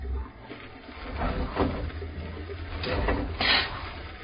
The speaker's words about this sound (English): And one night, I was sitting at her table, reckoning up how I could see herself through till spring, when there comes something scratching at her door.